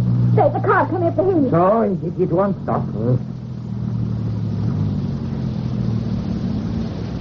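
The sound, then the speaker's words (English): A car engine drones steadily as the car comes up a hill, a low continuous hum that carries on after a few seconds of someone speaking over it at the start. “The car coming up the hill.”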